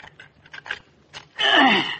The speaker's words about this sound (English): But next time we get a leaky faucet, she'll know. Now, let me see. Better loosen the whole faucet here.